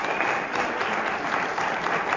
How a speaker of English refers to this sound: once again returning to the applause of this audience at the Sherwood Conservatory Recital Hall on South Michigan Avenue.